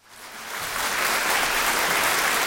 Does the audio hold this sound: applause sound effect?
yes